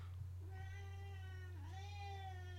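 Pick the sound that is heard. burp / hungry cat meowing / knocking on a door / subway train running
hungry cat meowing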